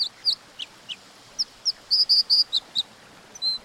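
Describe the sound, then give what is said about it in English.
A dipper sings a string of high, bright chirps and short buzzy notes, irregular at first, then quicker clustered phrases, over a steady low rushing hiss. “These dippers are also much more likely to stay on their home territories rather than expend energy to forage widely.”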